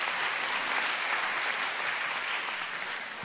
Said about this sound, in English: If you're receiving something, let's give the Lord a clap offering. That's right.